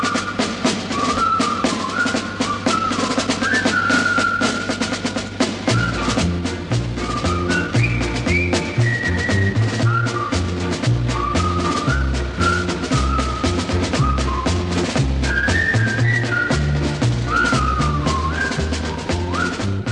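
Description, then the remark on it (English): The Colonel Bogey March, used as the theme of the 1957 film The Bridge on the River Kwai, is whistled in a bright, steady melody, joined after a few seconds by a full band with a thumping bass beat. No one speaks. “Alec Guinness in the top money-spinning Bridge on the River Kwai, which also breathed new life into the old Colonel Bogey March as a theme.”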